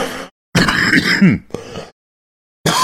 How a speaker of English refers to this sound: You're getting me sick. Yeah, we both had coughing fits because we laughed too much.